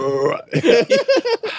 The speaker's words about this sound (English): I'm burping afterwards.